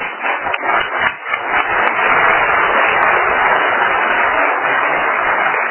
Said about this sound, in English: Known to those of us who know him and love him as the proverbial Mr. Halloween, let us welcome, with a round of applause, the Reverend Dr. Warren Hoover.